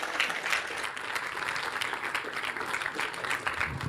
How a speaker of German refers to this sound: Und ich würde sagen, großen Applaus und viel Spaß mit dem Vortrag.